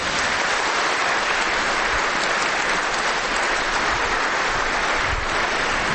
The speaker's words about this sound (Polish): Wielkie brawa.